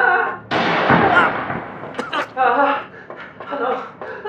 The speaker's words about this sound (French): Non! Assez de coups de feu!